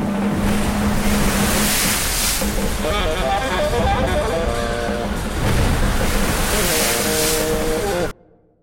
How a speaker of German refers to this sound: Meeresstrudel, ungeheurer Wind.